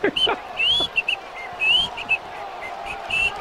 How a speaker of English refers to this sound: Yeah, you don't know how to whistle.